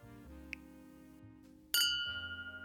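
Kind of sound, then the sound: household object, glasses clinking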